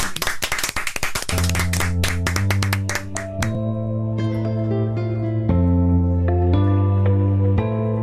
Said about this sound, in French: Applaudissements.